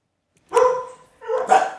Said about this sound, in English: my dogs are going nuts. I think someone's at my front door.